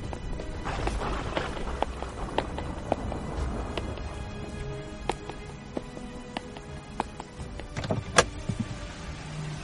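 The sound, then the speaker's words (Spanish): Car sounds: a low steady rumble with scattered mechanical clicks and sharp knocks, like doors and windows being worked, with no one talking. “Ahí está el coche.”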